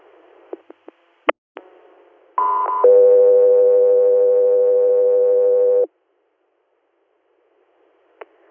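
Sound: radio dispatch alert tones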